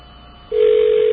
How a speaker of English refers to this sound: that's a distinctive WBAI ring right there